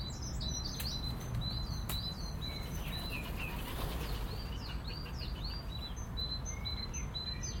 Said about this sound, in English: Now that was nice, the pair of wood pigeons flying down past me. They'd be coming down to land and then spot me at the last second and swoop away.